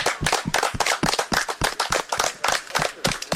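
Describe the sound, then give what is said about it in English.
A group applauds everyone for participating, with dense overlapping claps forming a steady, fairly loud patter that carries on without a break. No one speaks over it. “Let's give everyone a round of applause for participating.”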